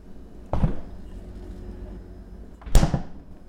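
A refrigerator door opens with a soft thud and rattle, then after a couple of seconds shuts with a sharper, louder thump.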